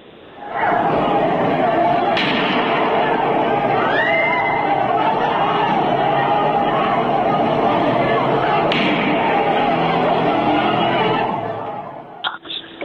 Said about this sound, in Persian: فیلمایی نشون میده که تو خودروها گاز اشکاور زدن و شلیک گلوله به سوی معترضان کردن که به کشته شدن حتی یک جوان 22 ساله